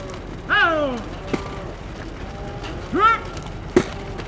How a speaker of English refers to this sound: Mexican cattle with M branded on their right hip careen down the dusty hill and are funneled into pens on the U.S. side.